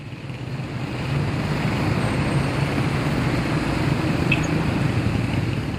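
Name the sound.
busy city street traffic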